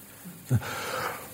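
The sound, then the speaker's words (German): A voice imitates the deep yawning of people during a prayer: a short low grunt, then a long breathy exhale lasting about a second, with no talking. “Aber dann habe ich gemerkt, die Leute, viele Leute haben ganz, ganz tief gegähnt.”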